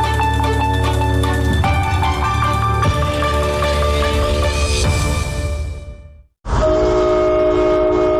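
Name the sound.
train horn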